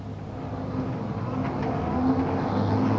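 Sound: car accelerating away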